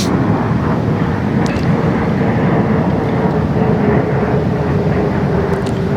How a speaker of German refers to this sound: und schon wieder ein Flugzeug. Was ist denn hier los heute?